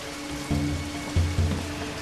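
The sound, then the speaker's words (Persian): Steady rain falls with a continuous hiss, and brief low rumbling tones swell up a few times underneath. No one speaks. “بارون تونل رو به گند کشیده.”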